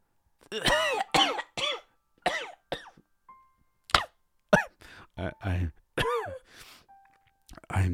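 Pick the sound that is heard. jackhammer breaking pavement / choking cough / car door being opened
choking cough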